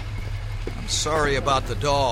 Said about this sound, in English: Hurry, there's a car coming.